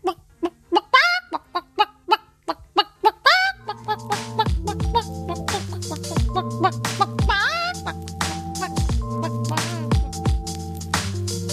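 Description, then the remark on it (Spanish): A hen clucks in a quick, steady run of short, sharp calls for a few seconds, then a burst of music takes over and plays to the end. “Maria Nicolau, has sentit el meu ajudant de cuina que s'encarrega de les gallines?”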